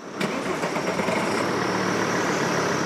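A car engine turns over with a sharp start, then settles into a steady idle that rumbles on evenly with no voices, as 98-year-old Holocaust survivor Leon Weintraub is driven from his hotel in central Berlin to the Free University in Dahlem.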